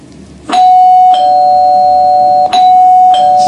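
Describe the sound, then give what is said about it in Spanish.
A loud electronic house doorbell rings as a Papa John's delivery calls, a steady bright tone that keeps sounding, renewed with a fresh strike several times over a few seconds. No voices. “Ahí está, el timbre de Papa John's, el timbre que suena, el timbre que llama.”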